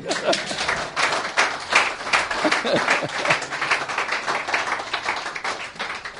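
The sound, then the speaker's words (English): A church audience claps during a Christian sermon, steadily for several seconds, a dense crackle of many hands with no clear rhythm, fairly loud, with faint voices murmuring underneath. “Okay, I didn't ask you to clap. You wanted to clap, so do it properly.”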